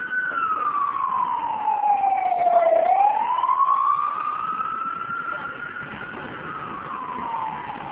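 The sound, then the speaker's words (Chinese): The siren of an ambulance that follows Jiang Zemin on his outings wails steadily, its pitch sliding slowly down and then back up in a long sweep. It is fairly loud, with traffic rumble underneath and no voices. “江泽民每次外出必有救护车跟着。”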